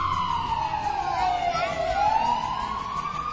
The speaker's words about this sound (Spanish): Se acaban de ir los bomberos, se escucha la alarma y la ambulancia va detrás de ellos.